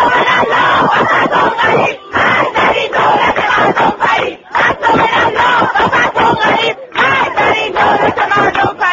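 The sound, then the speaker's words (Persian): A crowd of students at the University of Mazandaran cheers and chants anti-government slogans loudly and continuously as pictures of Mahmoud Ahmadinejad are pulled down from the university walls, voices overlapping in a dense roar with rhythmic bursts, briefly dipping in volume a few times before surging again. “دانشگاهی که اعتراضات ضد حکومتی در آن به پایین کشیدن عکس‌های محمود احمدی نژاد از دیوارهای دانشگاه در میان تشویق و شعارهای ضد حکومتی دانشجویان کشیده شد.”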